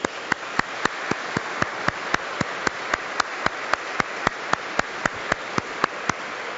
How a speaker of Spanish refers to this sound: Los abuelos que están aquí, ¿se pueden levantar? Se levantan todos los abuelos. Que Dios les bendiga por todo lo que hacen por sus hijos y sus nietos. Un aplauso por los abuelos.